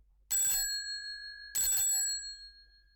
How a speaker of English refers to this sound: Then suddenly she ran across the road and rang Holmes's doorbell.